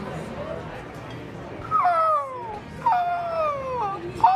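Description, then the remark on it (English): A person's voice imitates beach sounds, a seagull and a crashing wave: two drawn-out, high, wavering cries that slide downward, followed by a brief yelp at the end, over a faint, steady hiss. “Seagull. And a wave crashing.”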